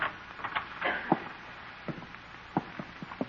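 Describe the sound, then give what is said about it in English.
A side door marked "employees only" being opened at night: a scattered series of soft clicks and light knocks, like a handle and latch being worked, irregular and fairly faint over a low background hiss, with no voices. “Here's the door. Says employees only, but let's go in anyway.”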